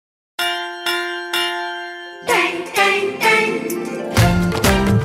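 A school bell rings three times in steady, evenly spaced strikes, each bright metallic tone lingering before the next, then a lively band of music comes in loudly over it.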